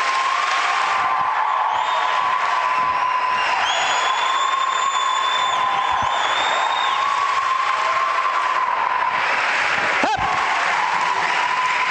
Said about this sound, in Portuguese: Chega. Notei uma certa falsidade nas vossas palmas.